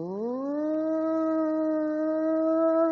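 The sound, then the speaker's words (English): A tornado warning siren winds up from a lower pitch into a loud, steady, rich wailing tone that holds unbroken for several seconds, with no voices. “It would turn green and gray and the clouds are boiling and all of a sudden they have to alert everybody so they hit the things and you all of a sudden start hearing it.”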